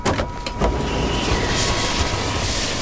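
A helicopter roars with a steady, loud engine and rotor wash, the noise holding constant as it sets down. No voices.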